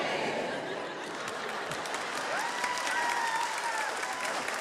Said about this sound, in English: joins the applause.